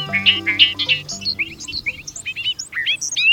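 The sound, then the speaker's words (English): A bobolink sings at Sunkhaze Meadows National Wildlife Refuge, just north of Bangor in central Maine: a rapid, bubbling jangle of high, metallic notes that tumble and bounce in pitch, while a low harmonic hum fades out beneath the opening second. “Listen as a bobolink sings a rapid jangle of notes, like a meadowlark backed by a banjo.”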